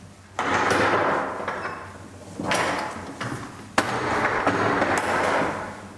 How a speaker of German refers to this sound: Das Tier kommt hier erstmal rein, hat seine Wartephase so ein bisschen. Und dann öffnen wir die Tür. Wenn das Tier durchgegangen ist, wird die Tür wieder geschlossen und dann kann es hinten zu der Futterbox laufen.